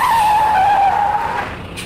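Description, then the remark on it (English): A green lorry skids to a stop with a loud, sustained tyre screech that holds a steady high pitch for over a second, then fades out. “A green lorry! Stop!”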